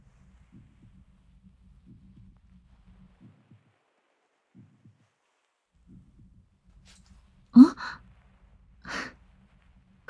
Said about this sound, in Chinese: 不信吗？手借我一下，我们的手各自放在对方的胸口上。你有感受到吗？我们之间的心跳和呼吸。